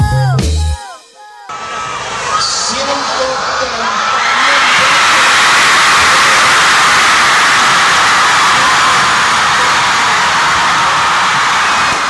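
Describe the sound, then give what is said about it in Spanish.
After a brief burst of chirpy tones, a huge outdoor crowd in front of the Congress erupts into a loud, continuous roar of cheering, whooping and shouting, celebrating the Chamber of Deputies' approval of the legal abortion bill; the roar swells and holds steady to the end. “Con la piel de gallina que se nos pone al recordar ese momento frente al Congreso, celebrando, gritando, abrazándonos, saltando, llorando, emocionándonos, tras la sanción en diputados del proyecto por el aborto legal,”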